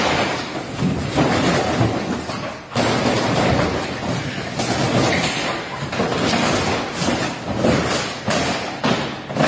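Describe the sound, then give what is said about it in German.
The head of a French cinema repeatedly smashes a baseball bat into a giant cardboard standee in protest, heavy dull thuds mixed with continuous crunching and crumpling, loud and relentless throughout with no voices. “Ja, tatsächlich ist das der Chef eines französischen Kinos, der mit einem Baseballschläger auf einen riesigen Pappaufsteller eindrischt.”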